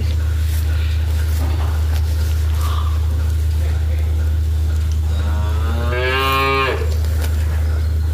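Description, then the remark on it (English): A single drawn-out calf moo, rising and then falling in pitch, sounds for about a second on a biodynamic farm in Thomastown, Kilkenny, over a steady low mechanical hum and faint background rustling. “For the kittens and the calves.”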